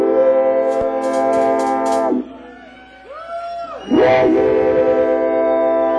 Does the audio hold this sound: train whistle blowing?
yes